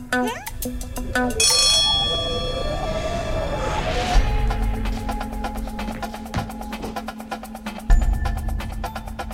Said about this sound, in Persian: خب هر کدوم میرین توی یه اتاق و وقتی صدای زنگوله رو شنیدین میتونین شروع کنین.